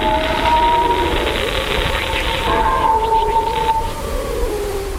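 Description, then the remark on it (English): An eerie, continuous electronic drone with wavering tonal whistles that slide in pitch over a hissing, crackling wash of noise, loud and steady throughout, converted from solar wind pressure waves captured by the Parker Solar Probe, whose measured frequencies and amplitudes were turned into sound. “this is sound that was captured by the Parker Solar Probe, and it measures pressure waves in the particles that make up solar wind”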